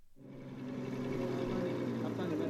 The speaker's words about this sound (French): Au nord de Nouakchott, à 4 km de l'océan, des dizaines de camions s'enfoncent dans les dunes.